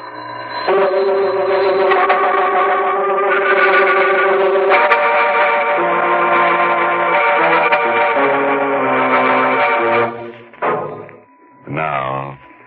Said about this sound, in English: The bell is still ringing. Quickly, he drags the body behind the sofa in the living room. And as the bell stops, he hears a door open behind him and footsteps in the hall.